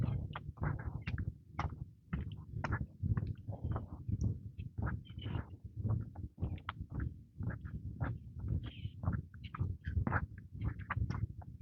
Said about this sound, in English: Lots of bird noises.